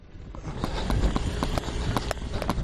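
running footsteps

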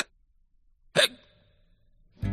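hiccup

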